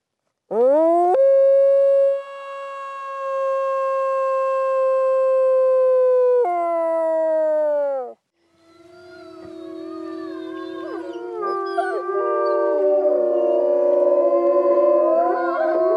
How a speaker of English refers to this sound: If you have any doubt about her position as the alpha dog, just listen. Can you show me your howl? Absolutely.